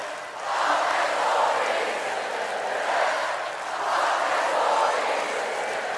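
A huge crowd at a concert broadcast on the BBC chants "Fuck the Tories" in unison, a loud, dense wash of many voices rising and falling in a steady repeating rhythm, with roughly three swells over several seconds.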